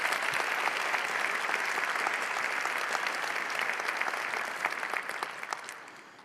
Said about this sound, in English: I think we can actually give that thank you back with some more applause.